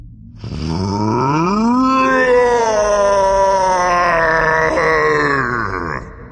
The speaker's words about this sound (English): Not his typical stream of abuse and threats, just a terrible animal cry of inarticulate grief. He was beside himself.